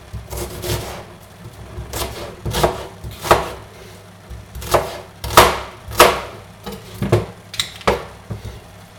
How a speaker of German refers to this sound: Okay, machen wir hier noch schnell die Haut weg von der Zwiebel. Schneiden wir die schön in kleine Würfel.